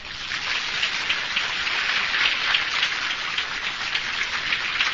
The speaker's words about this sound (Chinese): 我们应该来鼓掌。